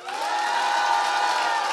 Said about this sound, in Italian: Forza. 94, 94. Applauso alle tre tipe top.